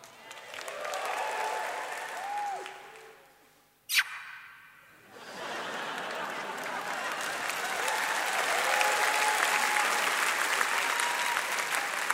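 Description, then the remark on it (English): A concert crowd claps and cheers loudly for the band's guitarist, with a short sharp burst and a brief dip before the applause swells back up and carries on steadily at full volume. “Anyway, show them you love them, Peeboo.”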